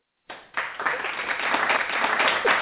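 Hands clap steadily for a couple of seconds after a brief silence, a fast, dense, continuous patter that holds at an even, fairly loud level with no talking over it.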